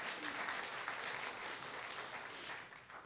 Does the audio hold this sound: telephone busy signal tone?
no